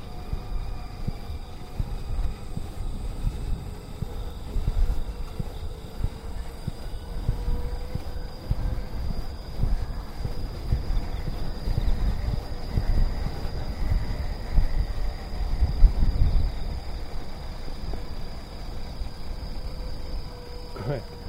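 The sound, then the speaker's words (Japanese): A bicycle with its dynamo-powered light switched on, ridden on a road with almost no street lights under a bright moon, is pedaled and then left to coast, giving a continuous low rolling rumble with a thin steady high whine running over it throughout. “漕いでる時と漕いでへん時も分かるな、これ音で、ね、今漕いでますでしょ。”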